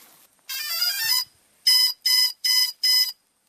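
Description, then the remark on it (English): A GPS drone's start-up beeps as it powers on: a longer electronic tone sweep, a pause, then four evenly spaced, bright high-pitched beeps, fairly loud with no talking. “So that's a pretty well-known sound, Sally. This drone has basically taken over the world.”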